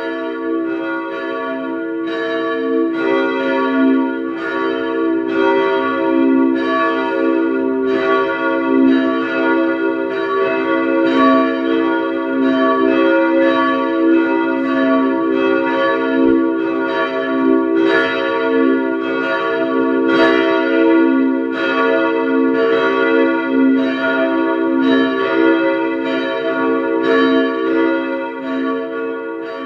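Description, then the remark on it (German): At 12 noon, the bells of the parish church of St. Ottmar unter den Weißgerbern in Vienna's 3rd district peal together in a dense, continuous ringing, overlapping strikes with a rich, humming resonance, loud and steady throughout with no voices. “Es ist 12 Uhr. Sie hören die Glocken der Pfarrkirche St. Ottmar unter den Weißgerbern in Wien 3.”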